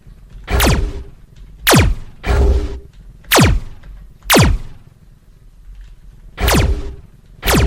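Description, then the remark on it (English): A series of about seven sharp synthetic whooshes from an enemy ship's shots in a video game, each a loud sweeping burst, fired at an uneven pace with short gaps of low hum between them. “you will hear a whoosh sound. Depending on how close you are, you will either hear a long whoosh”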